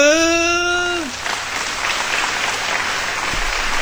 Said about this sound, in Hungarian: Elindult a taps.